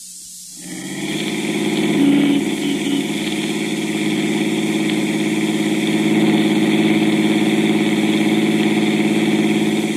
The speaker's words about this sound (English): Well, that's an automobile. An automobile, so? A car.